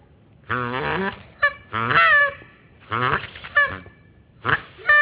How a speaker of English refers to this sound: It's a goose. Yes. It's what it is. This is a Canada goose.